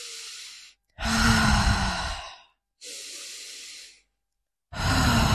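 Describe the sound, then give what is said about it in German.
Heavy, deliberate breathing demonstrated by a person: four loud breaths alternating between rough, throaty inhales and airy exhales, each lasting about a second or more, separated by short pauses. “Weißt du, kannst du so atmen, einfach so und diese Geräusche zu machen.”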